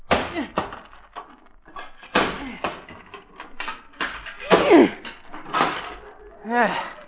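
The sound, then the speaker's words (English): A sledgehammer pounds and knocks down a wooden hammock post on a front lawn with a series of heavy, irregular thuds, each a sharp knock with a brief rattle, while voices grunt and talk in between the blows. “…, hand me that sledgehammer.”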